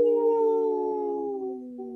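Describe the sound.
A person howls like a wolf, one long sustained wail that slowly slides downward in pitch, steady and fairly loud, with no talking.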